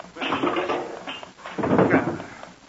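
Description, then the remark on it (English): A wooden drawer slides open with a scraping rattle, followed by a second louder burst of rummaging and clatter as a noisy clock is taken out of it, with no voices. “All right, take it out of that drawer.”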